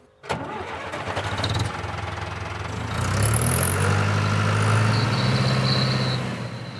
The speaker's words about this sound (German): Der Traktor wendet und schon bald sind auch in der letzten Parzelle Kartoffeln gesetzt.